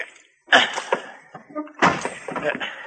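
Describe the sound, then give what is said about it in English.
A warped wooden door is shoved shut with two loud, heavy thumps about a second apart, with rattling and scraping in between and after as it is forced closed and locked. “Because the door is warped, Mr. Dillon, you'll have to shove onto it so that I can get it locked.”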